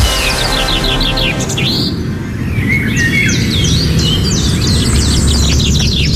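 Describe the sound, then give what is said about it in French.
Several birds sing and chirp at once in a busy dawn chorus around 4:30 to 4:45 in the morning, heard through open windows while sleeping, with bright, high, rapid trills and repeated whistled phrases layered over a steady low rumble, with no talking. “Est-ce que t'aimes ça te faire réveiller à 4h30 du matin, 5h moins quart par le bruit des oiseaux?”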